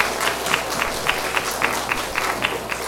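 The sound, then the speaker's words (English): An audience claps together for the readers, a dense patter of hands with a fairly steady, brisk rhythm at moderate loudness, and no voices over it. “Shall we give our readers a clap as well?”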